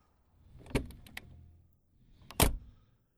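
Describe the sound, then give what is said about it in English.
A person getting out of a car after pulling into work: the car door opens with a clunk, a few light metallic clicks and key jingles follow, then the door slams shut, with no one speaking. “Exit car.”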